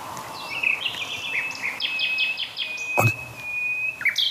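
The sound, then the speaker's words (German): The household's resident nightingale sings in quick, varied phrases of bright chirps and whistles, with a thin sustained tone running underneath, clear, joined by a brief sharp click near the end. “Und dann gibt es noch unsere Hausnachtigall.”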